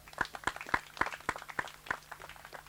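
A small audience claps for the girls who present a weekly kids' time segment, in scattered applause, about eight distinct hand claps at an uneven, loose rhythm over a faint steady low hum, with no voices.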